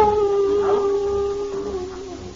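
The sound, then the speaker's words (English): Hounds baying on a windswept, rain-spattered English moor late at night, in a long, drawn-out howl, one sustained mournful tone with a slight waver in pitch that slowly sinks and fades near the end, over a low wash of noise. “Two men make their way across the windswept, rain-spattered moors to the accompaniment of hounds baying in the background.”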